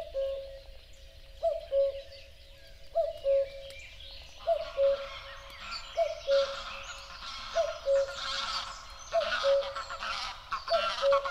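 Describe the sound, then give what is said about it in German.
A natural birdsong nature soundscape, edited together from outdoor recordings: a low, hooting call repeats steadily about every second and a half, and after a few seconds a dense layer of high chirps and twittering songs joins in. “entsprechende schöne Stellen, die mir besonders gut gefallen haben, möglichst ohne Flugzeuglärm und Verkehrslärm, werden dann zu einem schönen Naturhörbild zusammengeschnitten. Dann ist die Freude sehr groß. Und das hört sich dann so an.”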